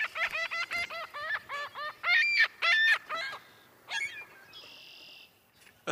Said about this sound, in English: I guess I'm going to end right now. Let the seagulls have the last word.